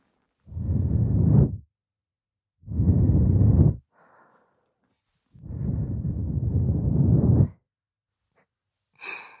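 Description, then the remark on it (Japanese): Three slow, airy breaths are blown softly into a listener's ear, each a soft whooshing exhale separated by brief pauses, the last one longer. No one speaks. “あら、耳元に吐息を吹きかけられただけでジタバタしてしまって、意地悪のしがいがありますね。”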